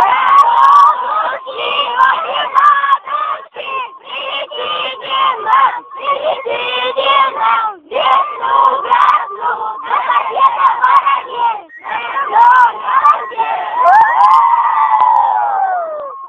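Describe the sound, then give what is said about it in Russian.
A large group of voices loudly chants a rhythmic Russian spring invocation in unison, calling on the larks to bring spring, syllables pulsing in short bursts with brief gaps, ending in a long drawn-out shout. Full and energetic throughout. “Последний раз громко-громко, а то все-таки вас некоторые жаворонки, все-таки я знаю, что не услышат.”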